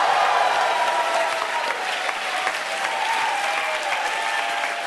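Steady applause from a crowd, dense and continuous clapping at an even, fairly loud level throughout, with no voices standing out above it.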